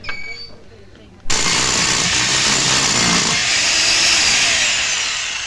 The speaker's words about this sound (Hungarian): 8 után tilos a fúrás, kispajtás.